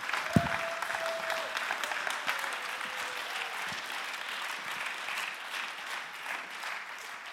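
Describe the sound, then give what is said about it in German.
An audience at an ICF church gathering claps steadily for several seconds to welcome a woman coming to the front, a dense, even patter of many hands with a sharp thump near the start and a faint tone briefly sounding underneath. “Lass uns sie mit einem herzlichen Applaus willkommen heißen.”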